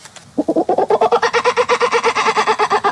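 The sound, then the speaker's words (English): A child's voice imitates a kookaburra's laughing call at the Bornda Bird Olympics, a students' bird-call impression contest on the far south coast of New South Wales: a fast, steady run of loud, cackling hoots that builds in pitch and keeps going without pause, with no other sounds around it. “is doing a kookaburra”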